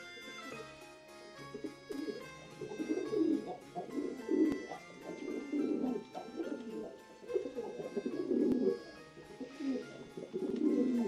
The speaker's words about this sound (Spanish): Apenas se entra en la aldea, atrae la mirada a una alta torre. Es el palomar de la alquería La Bugué, con sus 600 palomas.